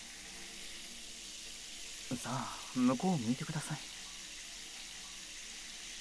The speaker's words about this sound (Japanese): シャワー、気持ちいいですか？お湯って気持ちいいですよ。